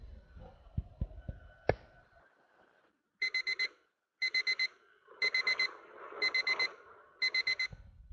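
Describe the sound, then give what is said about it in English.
An electronic alarm clock beeps in five loud, evenly spaced bursts of rapid high-pitched pulses, preceded by a few soft knocks and a sharp click. “I bet if I would just unplug that clock, it would lose some energy.”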